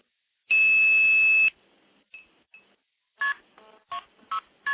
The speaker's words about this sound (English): So I'm going to dial KP2602 start, and that'll give me a dial tone. And thereafter, I'm going to use the touch tone pad on the phone here to stack a number of trunks repeatedly.